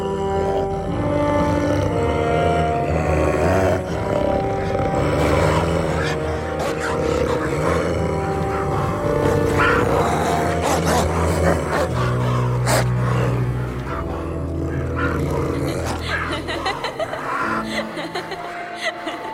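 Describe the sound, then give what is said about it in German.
A dog growls and grunts continuously, a loud, rough, throaty rumble that carries on for the whole stretch with only small shifts in intensity. “Los, Portland Maid. Kraul den Hund.”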